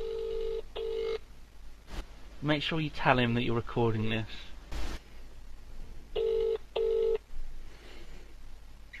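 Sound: telephone call ringing out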